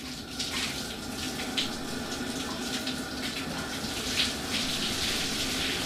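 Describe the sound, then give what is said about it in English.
Steady water from a shower by a sauna runs and splashes continuously, a hissing spray with faint spatters rising and falling over it. No one speaks. “So, allowing professionalism to override my personal cultural cringe, I dropped that towel and followed the girls into the shower and the sauna.”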